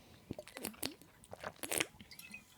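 A series of wet, irregular mouth sounds as someone sips and swallows water: quick slurps and gulps, several in a row, fairly quiet, with no talking.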